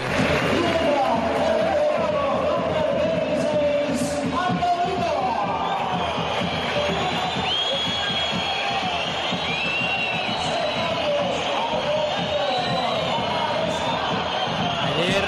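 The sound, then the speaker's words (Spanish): A packed crowd at La Rosaleda stadium in Málaga whistles loudly in protest, shrill high whistles streaking over a dense, continuous roar of voices that holds steady for the whole stretch. “Pitada fuerte, ¿no?”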